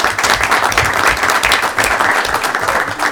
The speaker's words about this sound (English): And now we can please give him a round of applause.